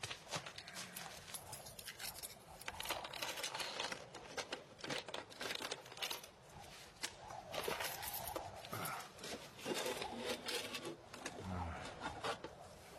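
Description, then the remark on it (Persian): A key rattles and turns in a lock, then a wooden chest holding the emerald-studded sword of the Sangbaran fortress is pried open amid steady scraping, creaking and clattering handling noises; no voices. “کلید که داری بازش کن.”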